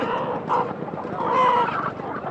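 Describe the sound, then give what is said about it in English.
Chickens cluck repeatedly amid the busy, noisy Lambaro food market, where chickens, geese, goats and beef are sold, their short calls rising over a steady bed of crowd murmur and bustle from hundreds of food vendors. “The large shopping centers downtown were destroyed, and Lambaro is now one of the only places that people can buy chicken and geese, goat and beef, and basic household essentials.”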